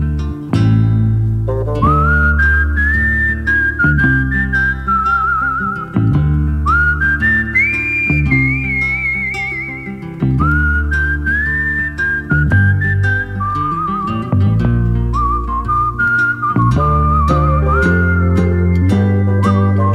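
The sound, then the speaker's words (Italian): A clear, prominent whistled melody carries a tune of sustained, gliding notes over a full instrumental backing, phrase after phrase, loud and upfront in a recorded song with no talking. “E la playlist di oggi si chiama ovviamente Fischia che ti passa, e questo è un capolavoro assoluto, con forse il più grande fischiatore della storia dei fischiatori.”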